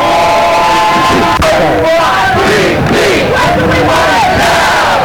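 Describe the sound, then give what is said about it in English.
A loud, dense crowd of hundreds of protesters heading toward a freeway cheers and chants together, with people in passing cars cheering them on, voices overlapping in a continuous roar with shifting shouted tones, sustained throughout, in chilly weather as the sky darkens. “Hundreds of people cheering us on from the safety of their vehicles.”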